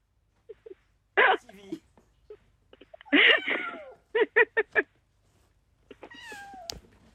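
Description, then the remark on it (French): A cat meows repeatedly: a couple of drawn-out, wavering meows, then a quick run of four short chirpy calls, and finally a higher, falling meow, with faint background sounds between them. “Vous n'avez pas le chat. Non mais viens là.”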